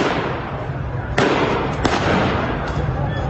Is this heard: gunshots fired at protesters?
yes